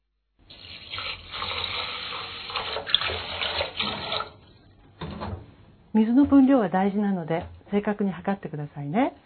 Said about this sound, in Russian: Затем обычным образом промойте рис водой. Вода в чаше будет молочно-белого цвета. Приподнимайте дуршлаг с рисом и меняйте воду в чаше. Еще раз промойте рис.